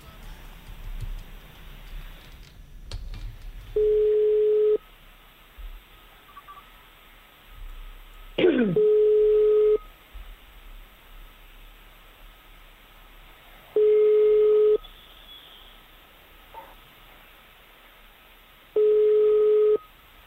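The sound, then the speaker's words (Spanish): A telephone ringback tone while a call connects: four steady, single-pitched beeps, each about a second long, repeating at even intervals over faint line hiss, with one brief click midway. “Coja el teléfono.”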